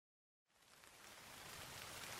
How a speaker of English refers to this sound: Oh no, it's raining. We can't go on our picnic.